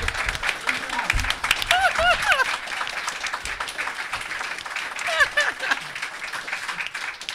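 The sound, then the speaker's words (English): A crowd applauds steadily for several seconds, dense clapping with whoops and cheering voices rising briefly above it before the noise gradually thins. “Just think about what you clapped for.”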